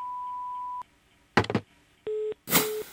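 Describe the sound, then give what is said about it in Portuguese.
A steady, high voicemail beep holds for almost a second, then stops. Crackly bursts of noise follow, then a shorter, lower buzzy tone and a final hiss of static, with no voices. “Posso atender agora, mas deixa o seu recado depois do bip.”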